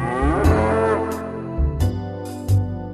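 A cow moos loudly, a long drawn-out low call with rich harmonics that fills the whole moment, with no talking over it.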